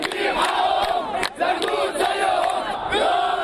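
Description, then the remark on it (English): More than 500 Coptic protesters in Egypt, joined by dozens of Muslim supporters, shout and chant together at the scene of an explosion, deriding the government and calling for the president to step down. A loud, continuous roar of many voices, with rhythmic surges and a brief dip in volume partway through. “More than 500 Coptic protesters gathered at the scene of the explosion, deriding the government and calling for the president to step down.”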